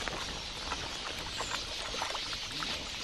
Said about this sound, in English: The air is thick with a flurry of birds. In the cool of the evening, Quelea come by to drink, each bird hopping politely forward to take its turn.